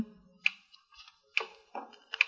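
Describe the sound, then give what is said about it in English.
A small clock timer, wired in an electric circuit to a drum of gasoline behind boxes, ticks faintly and steadily, with sharp, light clicks spaced just under a second apart and a few softer knocks in between, with no voices. “Sounds like a little clock.”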